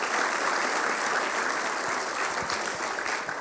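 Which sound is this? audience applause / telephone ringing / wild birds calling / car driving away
audience applause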